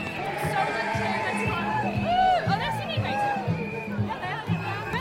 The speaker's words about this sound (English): It's an absolutely phenomenal turnout. And the vibes, everyone is so chilled out. The audience, the crowds lining the streets are just cheering and whooping and hollering in a whole spirit of love and acceptance.